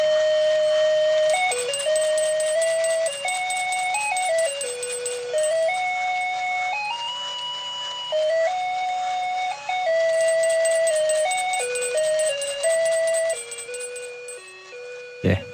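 A tinny, electronic melody from a musical Christmas card as it is opened, steady high square-wave notes stepping through a simple tune for about fifteen seconds, then cutting off with a small click.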